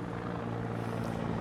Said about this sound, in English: Helicopters are up.